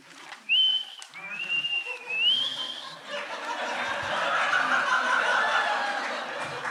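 A person whistles a few clear, high notes, the last one sliding upward, before the whistling gives way to a soft, breathy rush of noise.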